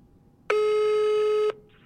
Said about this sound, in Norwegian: Oj. Kom en ny lyd. Nu ringer jag. Okej. Okay. Det är på högtalare. Högtalare. Oj, jag hörde det telefon.